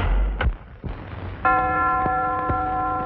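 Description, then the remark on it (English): A door, unlocked with a key, is closed by a man stepping inside. It shuts with two quick, sharp knocks of wood and latch, followed by a bright, sustained bell-like chime that is struck twice more as it rings on. “He steps inside and closes it behind him.”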